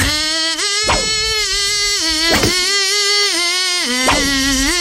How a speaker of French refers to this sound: C'est un moustique qui fait la gueule tout le temps, lui.